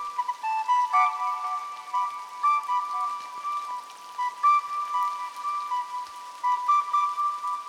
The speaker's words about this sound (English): So yeah, I was incorporating the whistle and the rain into one, and they both fade into each other until the rain becomes the prominent audio, and then the whistles come back towards the end.